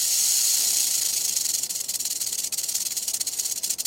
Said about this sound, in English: In one experiment, ground squirrels were nearly as alarmed by the burrowing owl's hiss as they were by the recording of a real rattlesnake like this one.